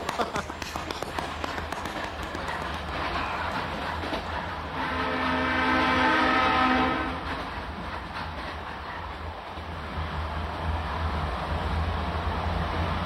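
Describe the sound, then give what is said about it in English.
A train on a journey to Nanjing rolls steadily along the rails through flat rural China, past rice paddies in the late afternoon, with a constant low rumble and rattling, and a long horn blast rises over it midway before the running noise continues. “The land is very flat around here, and we're just passing a lot of rice paddies.”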